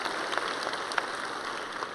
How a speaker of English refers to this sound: That is people that have committed and said, I will commit to a year and I will help to reach that community. So would you just give them a huge big round of applause? That's awesome.